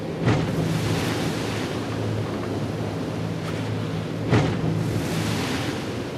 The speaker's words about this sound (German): Wir haben hier ca. 3 Meter Welle. Dann passiert es auch immer wieder mal, dass der Bug auf die Wasseroberfläche knallt. Anstrengende Bedingungen für Material und Crew.